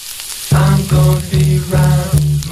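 A frying sizzle sound effect introducing the show's Phil's Flash Fry segment: bright, hissing crackle that swells in five rhythmic bursts over a low, steady tonal hum, with no voices.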